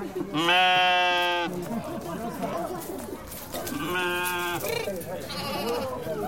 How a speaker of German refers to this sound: In den schmalen Gassen zwischen den Häusern bahnen sich Schafe den Weg in ihren Stall. Die unteren Stockwerke sind hier den Tieren vorbehalten.